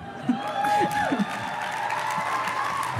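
An audience claps and cheers in a dense, steady wash of applause, with a few whoops and voices rising above it before the clapping settles into a constant roar.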